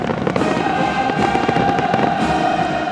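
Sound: fireworks exploding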